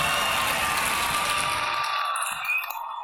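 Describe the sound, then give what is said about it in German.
A large audience at an evening of talks claps and cheers loudly, showing how they would react to an excellent talk, in a dense, continuous wash of applause that thins out and fades over the last second. “Und wie klingt das, wenn das wirklich ein so wahnsinnig guter Vortrag ist, dass Sie sich kaum auf den Sitz halten können, während Sie ihn hören?”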